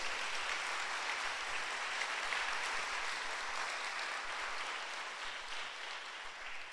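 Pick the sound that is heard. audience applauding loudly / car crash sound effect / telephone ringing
audience applauding loudly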